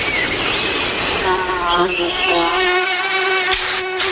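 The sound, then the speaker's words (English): A mosquito buzzes in a thin, steady whine that wavers in pitch as it hovers. The sound is loud and continuous for about four seconds. “Don't worry, you have Off Clean Feel, fragrance-free mosquito repellent that feels good on skin, so even mosquitoes can't ruin those sweet feelings of summer.”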